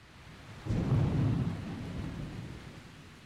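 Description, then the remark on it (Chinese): A deep rumble of thunder outside breaks in suddenly and rolls on for a couple of seconds before fading, with a steady hiss of rain underneath throughout. “你听，外面还在打雷，我一个人睡会害怕的。”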